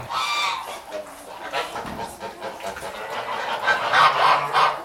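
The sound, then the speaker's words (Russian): Several geese grazing near a house honk and cackle continuously, their harsh, nasal calls overlapping in a busy, noisy flock chorus with no talking. “Возле дома паслись гуси.”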